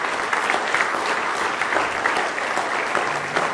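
A church audience claps steadily at night in praise of the Lord, a dense, sustained wash of many hands clapping at once, fairly loud and continuous throughout with no voices standing out.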